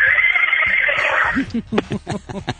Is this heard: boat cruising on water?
no